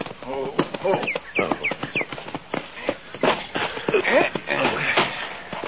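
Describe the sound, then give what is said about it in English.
A new horse's hooves clop and shuffle at an uneven pace down by a corral, sharp knocks scattered throughout, while people talk over the top of the movement. “Down by the corral there, isn't it? Oh, yeah, yeah. He's got a new horse.”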